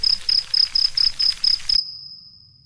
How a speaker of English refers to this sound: And the first thing that happens is that all the crickets come.